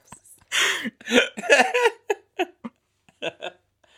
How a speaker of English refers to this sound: I'm laughing so hard I have the hiccups.